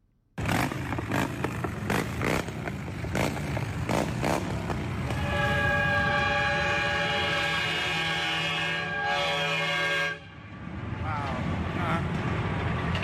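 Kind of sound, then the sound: vehicle, truck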